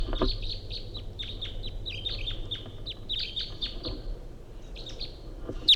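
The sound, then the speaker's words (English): A wild male bird calls in a rapid, uneven string of high, sharp chirps over a steady low background rumble, with one louder chirp right at the end. “recording 806 Wild Bird coming in.”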